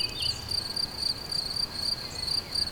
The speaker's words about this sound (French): Le chant des grillons et au loin les sonnailles des brebis vont accueillir bientôt la nuit.